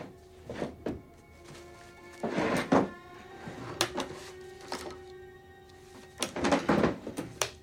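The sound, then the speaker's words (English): Desk drawers in an office slide open and shut as someone searches through them, in two rattling bursts, with scattered sharp wooden knocks and clicks between them, fairly quiet over a faint steady hum, with no talking. “searches through desk drawers.”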